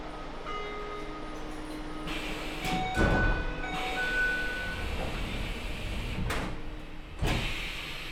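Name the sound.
subway train doors closing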